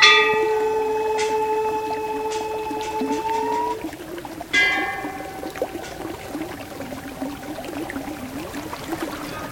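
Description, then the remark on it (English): A mountain stream, coming from a glacier on the east side of the mountain and running down the canyon into Lake Mansarovar, flows with a steady rushing wash, while sustained, wavering tonal hums ring over it and pause briefly partway through. No one speaks. “This stream comes from a glacier on the east side of the mountain.”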